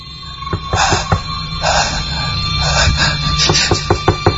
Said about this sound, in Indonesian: Sampai terdengar ketukan dari luar pintu gudang ini.